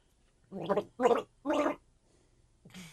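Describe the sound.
Someone gargles water to the tune of a song in three bursts, each bubbling phrase rising and falling like a sung melody line, followed by a short pause and a fourth gurgle starting at the end.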